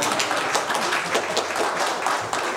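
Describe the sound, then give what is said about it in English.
A dense, steady round of applause from a crowd for a group of ladies, many hands clapping at once in a continuous crackling wash with no pauses and no voices standing out. “give these ladies a good round of applause.”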